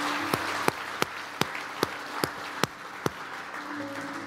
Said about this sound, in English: Can we give Jesus a big hand clap of appreciation here this morning?